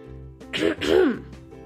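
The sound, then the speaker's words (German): A school headmaster clears his throat twice in quick succession, moderately loud, two raspy voiced bursts with no speech around them. “Unser Schulleiter räusperte sich.”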